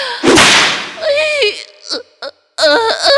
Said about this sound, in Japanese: 痛い。いいわ。突然鞭打つなんて、素敵ですわ。